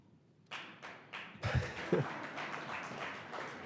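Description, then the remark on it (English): A few scattered claps start off, then an audience breaks into steady, moderately loud applause that swells and keeps going to the end, with a couple of low thumps mixed in. “And the applause goes to President Reagan and Ibn Khaldun, I think both of them.”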